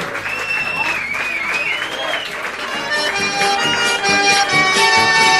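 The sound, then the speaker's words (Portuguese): A crowd claps in tribute to the Hora do Fazendeiro, a Rádio Inconfidência program from Belo Horizonte on air since 1936, with sliding whistles cutting through early on; the applause swells a little louder in the second half as sustained tones join the noise. “Palmas para a Hora do Fazendeiro!”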